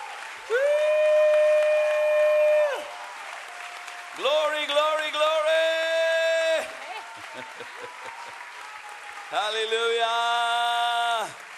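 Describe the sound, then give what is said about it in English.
An audience applauds and cheers to give the Lord a hand, with loud, sustained, high-pitched vocal cries rising over clapping in three long bursts separated by brief quieter gaps. “Wir wollen ihm applaudieren.”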